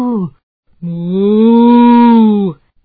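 A voice imitates a cow's moo, a short clipped note followed by a long, steady, loud moo lasting nearly two seconds, alone.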